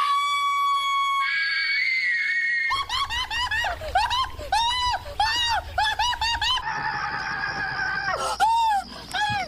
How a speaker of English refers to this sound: Now, the US retailer GameStop's Christmas commercial had an awful lot of screaming in it.